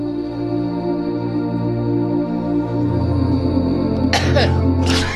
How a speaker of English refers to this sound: Sorry. Someone had to give a revolting dry cough, which, by the way, is the first sign of... Coronavirus.